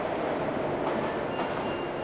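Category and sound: vehicle, train arriving at station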